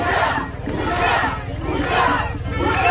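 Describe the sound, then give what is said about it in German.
A large crowd chants at a street demonstration in Israel, such as in Tel Aviv, in loud, rhythmic waves, voices swelling roughly every second, with a dense roar of many shouting people underneath throughout. “Demonstrationen fanden in Tel Aviv und an anderen Orten Israels statt.”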